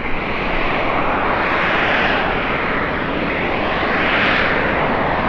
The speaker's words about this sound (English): What she heard was the sound of gas being vented from the pipeline